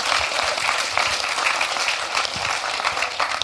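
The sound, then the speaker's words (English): An audience applauds an operational healthcare manager who runs an outpatient department, in a steady, dense round of clapping that holds at an even, fairly loud level for a few seconds without any speech. “Big round of applause for doing that job.”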